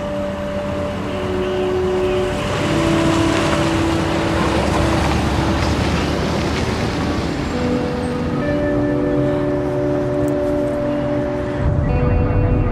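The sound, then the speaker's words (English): A steady, fairly loud vehicle rumble with a droning engine tone runs throughout as a police car pulls away and drives off, with no voices present. “The Fords stare after Lou, and Margot watches sadly as the police car drives away.”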